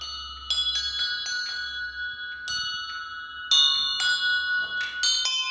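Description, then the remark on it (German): An attempt at the Christmas song Kling Glöckchen rings out on carillon bells at the Grassmeier bell foundry in Innsbruck, struck notes in a steady sequence with long shimmering overtones that overlap and decay, clear, no voices. “Mal sehen, ob ich Klingglöckchen Kling auch auf so einem Glockenspiel hinkrieg.”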